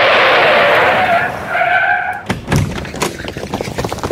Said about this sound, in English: Miguel pulls the truck over as XJB bounds out of the truck that skids to a halt.